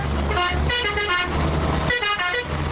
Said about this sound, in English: Hundreds of fuel tanker trucks stand in line at the Turkish border, waiting up to 5 days to get permission to cross the Hezil River into northern Iraq.